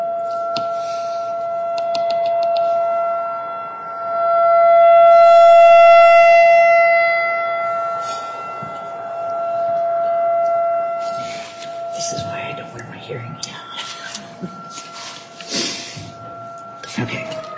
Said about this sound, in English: It's going to get way louder here in a minute. We should offer earplugs at this particular hearing, but we do not. But we know we're all safe because of the sirens.